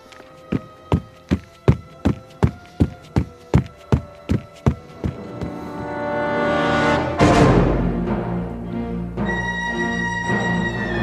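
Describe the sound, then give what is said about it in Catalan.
Quick running footsteps of a man running out of a cabin toward a river, about a dozen firm, evenly spaced thuds, pound along for several seconds before giving way to a rising rush of noise, a sudden burst, and then sustained music. “un dels ajudants del xèrif, surt esperitat de la cabana en direcció al riu.”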